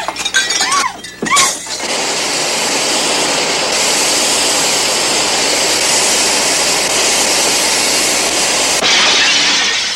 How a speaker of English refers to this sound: Stop the train! Stop the train, hell!